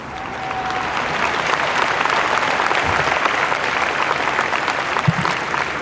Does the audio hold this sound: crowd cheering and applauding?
yes